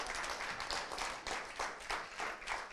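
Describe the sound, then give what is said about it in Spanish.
A crowd applauds the Lord after a Bible reading, a dense wash of many hands clapping with a faint rhythmic surge every half second or so, sustained and moderately loud with no talking. “Un aplauso al Señor fuerte, amén.”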